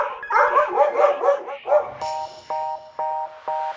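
Several dogs bark and yip in quick, overlapping bursts, fairly loud, for about two seconds, then four evenly spaced electronic beeps follow.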